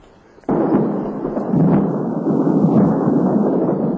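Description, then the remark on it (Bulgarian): A sudden loud, deep rumble of thunder bursts in and rolls on continuously, heavy and low, sustained without pause and with no voices. “Гръм.”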